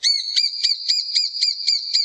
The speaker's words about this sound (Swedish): Här är det inte spillkråka och gröngöling som är de största sammanblandningsriskerna utan de mindre hackspettarterna. Den som heter just mindre hackspett.